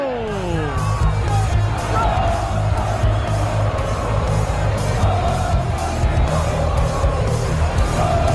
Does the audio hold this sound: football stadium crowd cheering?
yes